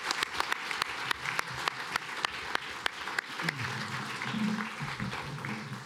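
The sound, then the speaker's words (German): An audience applauds steadily for two presenters, a dense wash of clapping with sharper individual claps standing out, and a faint murmur of voices underneath toward the end. “Und hier ist nochmal ein Applaus für euch beide.”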